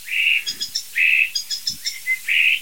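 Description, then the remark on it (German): A single starling perched directly overhead mimics an alarm system: a loud, steady whistled tone followed by a run of quick, higher electronic-sounding beeps, the pattern repeating in a regular cycle with no talking. “Es sind nicht zwei, es ist einer, der sitzt genau über uns und macht gerade eine Alarmanlage.”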